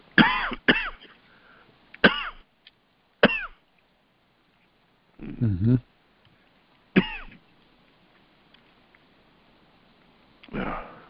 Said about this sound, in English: You'll have to excuse me. I'm getting over a sore throat. And every once in a while, I've got a cough.